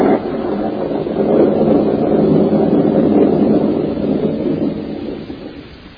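A long, steady roll of thunder from a storm rumbles loudly for several seconds with no break, heard in the Goldberg living room in The Goldbergs, then slowly fades toward the end. No one speaks.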